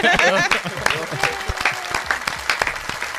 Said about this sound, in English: And I would like to give them a round of applause for the hard work